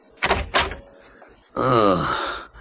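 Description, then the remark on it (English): A door opens with two quick, solid clunks of the latch and wood, followed after a brief pause by a long, drawn-out groaning voice. “it seemed to me that the lemon had scarcely touched the pillow before I was aroused out of the dreamless by the sound of the door opening.”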